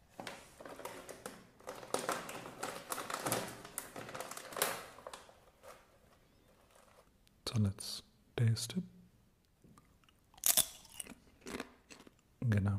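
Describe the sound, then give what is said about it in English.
Crunching of crisp corn snacks made with white beans, garlic powder, beetroot juice and spinach powder, manufactured in Haridwar, India, as they are tasted: first a dense stretch of rapid, crackly chewing, then a few sharp, separate bites with quiet pauses between them. No one speaks. “So let's taste these.”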